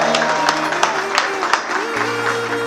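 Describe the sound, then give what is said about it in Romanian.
A crowd applauds a marriage proposal with steady, dense clapping and a few sharper claps poking through, while sustained tones hum underneath the whole time. “Aplauze, ale tale!”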